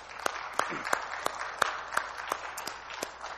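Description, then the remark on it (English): An audience applauds in appreciation of a church elder stepping down after 30 years of service. A dense patter of many hands clapping, with a few sharper, louder claps popping out at a steady pace, sustained throughout. “I would just like for us to give him a round of appreciative applause for 30 years of caring for God's people.”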